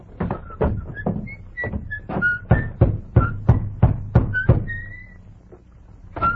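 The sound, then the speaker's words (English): A quick run of sharp knocks on the wooden door of a small white cottage in the little town of Carsonville, a man in an army uniform rapping roughly a dozen times in an uneven rhythm, with faint whistle-like tones drifting between them. “He rode up to a small white cottage, dismounted, slapped dust from his army uniform, then rapped on the door.”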